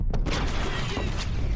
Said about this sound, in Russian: Яйца взрываются!